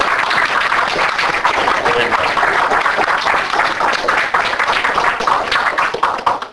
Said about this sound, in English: And if you really enjoyed his lectures, you owe him a great round of applause.